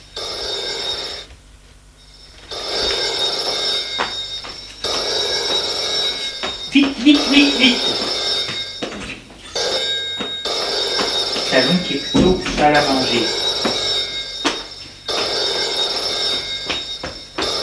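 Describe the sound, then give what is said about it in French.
A telephone rings loudly in a long series of bright, shrill bursts with short pauses between them, and a voice briefly cuts in over the ringing. “Elle prend le téléphone. Allô?”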